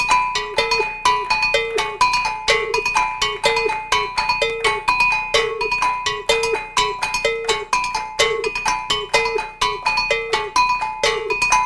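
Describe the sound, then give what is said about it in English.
Several metal bells struck in interlocking rhythmic patterns, bright ringing tones repeating steadily with sharp attacks, forming a continuous layered groove with no voices. “From here going, imagine hearing about 10 of these bells, all playing short, contrasted, for listening, or dancing, or just singing over.”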